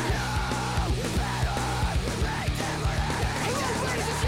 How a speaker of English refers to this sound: And now we got the yells.